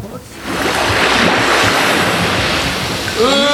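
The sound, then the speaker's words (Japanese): Ocean surf at the Aoshima swimming beach roars steadily and loudly, a continuous broad wash of breaking waves with some wind, and a brief voice surfaces faintly at the very end. “はい、状況会場はですね、青島海水浴場のシーンでございます。”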